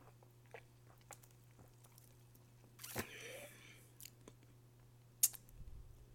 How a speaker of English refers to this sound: So, well, this drink isn't meant for sniffing. It's meant for drinking, and I need to take my first sip. Okay, here we go. 1, 2, 3.